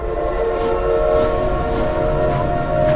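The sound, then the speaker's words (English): A heavy, overcrowded passenger train packed with people moves off from a station, rumbling steadily with a sustained horn-like tone and a low, shuddering mechanical drone, loud, as it pulls slowly away. No voices are heard. “The train began to move off, shuddering with its load.”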